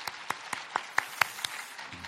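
A church audience claps together to welcome first-time visitors, in a steady, even rhythm, about nine sharp claps in quick succession, fading out at the end with no talking.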